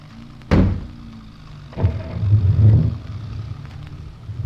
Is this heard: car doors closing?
yes